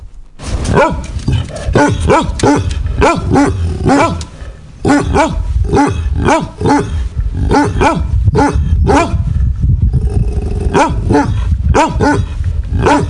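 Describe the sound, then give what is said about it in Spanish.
Several dogs bark continuously and loudly, their overlapping barks coming in rapid, irregular bursts with occasional growls, with no speech. “Ahora escuchamos a unos perros sí, ladrando para hacernos el ambiente”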